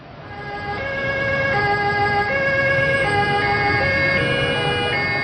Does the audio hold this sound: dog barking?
no